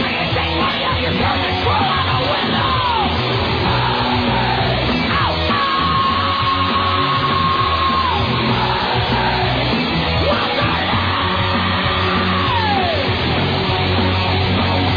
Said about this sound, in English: This ends with probably the best scream on the list